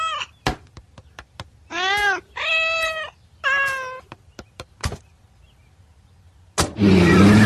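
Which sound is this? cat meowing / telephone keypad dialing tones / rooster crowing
cat meowing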